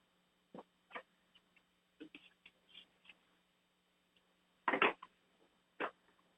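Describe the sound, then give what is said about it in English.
A dog that has just come out moves about, making scattered brief snuffles and scrabbling clicks, with one louder burst of shuffling noise near the end. “One of our dogs just came out.”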